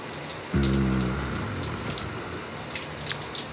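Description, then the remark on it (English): Shower water runs in a steady, even hiss with faint patters, briefly joined near the start by a low humming drone that fades after about half a second. “The water sheeting off your skin.”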